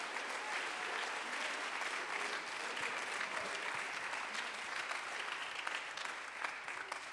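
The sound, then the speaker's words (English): Sustained applause from a crowd clapping their hands unto the Lord, a dense steady patter of many hands clapping at an even loudness for several seconds with no voices standing out. “Clap your hands unto the Lord right Aplaudan now.”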